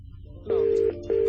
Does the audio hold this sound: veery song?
no